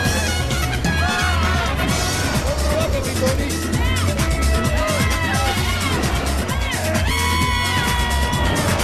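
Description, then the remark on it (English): A crowd of people laughing and cheering as a spinning sombrero turns, with overlapping shouts and high whoops that stay loud and busy throughout, over a steady low rumble. “As the sombrero spins, they watch each other, laughing and cheering.”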